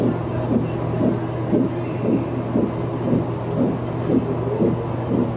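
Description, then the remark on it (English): A fetal heartbeat on an ultrasound monitor: rapid, steady whooshing pulses, roughly two per second, over a constant low electronic hum, with no voices. “So that's our baby's heartbeat.”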